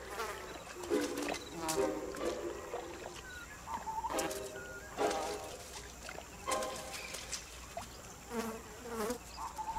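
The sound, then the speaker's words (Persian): Flies buzz in repeated passes, each drone rising and falling in pitch as it swoops near and away, over a steady outdoor hiss. “جایی مگس باشه وقت ناهار قورباغه هاست.”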